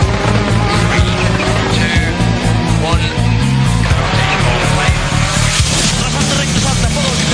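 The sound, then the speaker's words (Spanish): A car engine starts and roars loudly, revving continuously for several seconds with a dense, rumbling drone and no pauses. “Abróchense los cinturones. Sujeten fuerte el volante. Arranca.”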